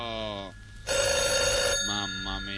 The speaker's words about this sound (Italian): Perché c'è una telefonata in linea? Guardi che noi sentiamo lo squillo, non c'è bisogno che lei fischi.